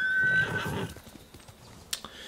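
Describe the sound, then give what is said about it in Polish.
A horse in a video game lets out a short, high whinny, followed by a steady series of hooves clopping at a walking pace, moderately loud, with no voices. “Dobra, koniku.”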